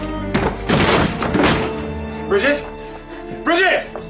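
A door is forced open with a run of heavy, loud thuds and a splintering crash, followed by two short, wavering high-pitched vocal cries.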